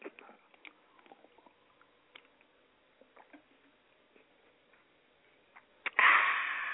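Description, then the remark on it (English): Someone drinking water: soft, scattered sipping and swallowing clicks, then a sudden loud breathy burst near the end, like a satisfied exhale after the drink. “By the way, I'm drinking my water, too.”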